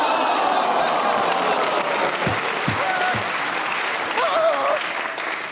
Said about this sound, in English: Oh, round of applause from the audience, basically, who are keeping internal time, 51 seconds on a perfect disguise. Beautifully done.